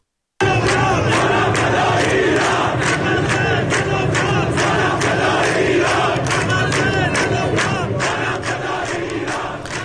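A large crowd of protesters in Behbahan chants slogans in unison, loud and continuous, with many voices shouting together in a steady rhythm outdoors, punctuated by sharp bursts of louder cries.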